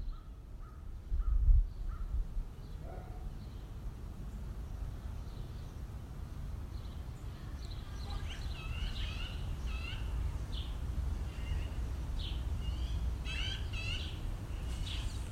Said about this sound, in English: I was sitting in my backyard the other day, listening to the birds. It sounded like they might be fighting, or at least upset with one another. Or maybe not, I'm not sure. Either way, they were communicating.